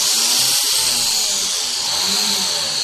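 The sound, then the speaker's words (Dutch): A small high-pitched rotary drill whines steadily and loudly throughout, a continuous buzzing grind with slight wavering in pitch as it slowly bores a hole into a freshwater pearl for a gold necklace. No one speaks. “Ik ga nu in de zoetwaterparels een gaatje boren, zodat ik die straks met een gouden draad kan vastmaken aan die originele schakels die ik gemaakt heb.”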